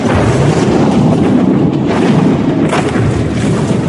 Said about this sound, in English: The car left the road and disappeared over the side of the hill. For a moment, there was silence as the car flew through the air. Then came the crash.